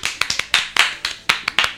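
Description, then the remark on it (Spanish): A short burst of applause: sharp hand claps arriving in a quick, uneven rhythm, as if from a small group clapping together, with no voices over it. “Otro aplauso, por favor.”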